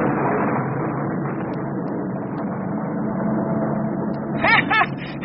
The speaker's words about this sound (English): Do you hear that? That's thunder. I told you it was going to rain.